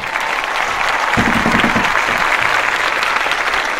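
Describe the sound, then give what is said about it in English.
Steady, loud applause from a crowd, a dense patter of many hands clapping at once that holds without a break, with a brief murmur of voices rising within it, welcoming a guest author to the show Writer's Block. “This is where we usually say thanks for the clap.”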